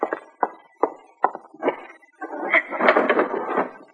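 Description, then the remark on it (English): Sharp wooden knocks, about six of them at an uneven, unhurried pace, rapping on the general delivery window of the post office at Painted Bend. They give way to a louder, rough, continuous rustling clatter that fills the final two seconds. “One morning, just as she had finished sorting the mail, someone knocked at the general delivery window.”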